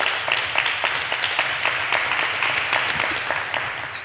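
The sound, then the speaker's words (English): An audience applauds a female guest steadily, dense overlapping hand claps forming a continuous, fairly loud wash of sound with no pauses, sustained throughout without any talking. “If not, let's give her a big round of applause now again.”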